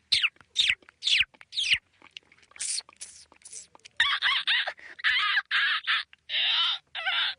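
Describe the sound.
A Nigerian beatbox performer in Lagos imitates birds with his voice: a few quick swooping whistles and chirps, then a run of about six loud, raspy caw-like calls in steady succession.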